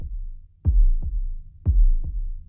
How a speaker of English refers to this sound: The first track, which starts with a heartbeat.